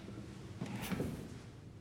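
A person drops heavily onto a chair, giving a single muffled thump with a brief wooden creak, fairly soft, over a quiet background with no talking.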